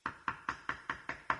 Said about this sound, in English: I'm here. I'm knocking at the door.